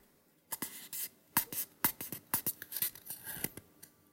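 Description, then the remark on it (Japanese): A paper cup being handled, a quick irregular series of crinkly scrapes, rustles and light taps over about four seconds, with no one speaking; the paper cup is to be used for urinating in the style of a urine test. “紙コップを使って、検尿風に、おしっこしていきたいと思います。”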